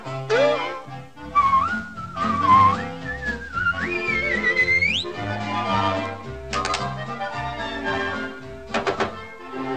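A bright whistled melody rises and glides through a short, lilting tune, with light knocks and clattering thuds underneath and a few sharp percussive clicks near the end.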